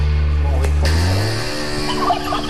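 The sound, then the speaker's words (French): Real hens cackle loudly while laying eggs, in a rapid, warbling burst, the throaty calls almost turkey-like, running continuously for a couple of seconds with no talking. “mais à la fin, ce sont de vraies poules qui pondent.”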